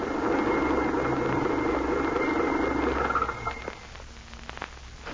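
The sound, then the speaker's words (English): A car engine rumbles with a steady, broad drone for a few seconds, then shuts off, leaving near quiet broken by a few small clicks and ticks. “Stop devil wagon, quickly.”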